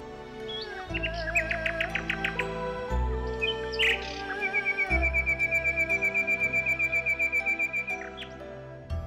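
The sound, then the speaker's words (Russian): A nightingale sings a varied song of rapid repeated notes and a long, steady trill, clear, over a low, droning musical background. “И смерть отдавала одну драгоценность за другой, а соловей все пел.”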